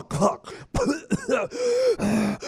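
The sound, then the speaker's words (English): A person vocally imitates an apnea-like choking, gasping snore, as when the tongue has fallen back in the throat: a series of rough throaty gulps and catches, then two sustained strained snorting tones, fairly loud with no talking. “There's the apnea-like snore where you're choking because your tongue has fallen back in your throat.”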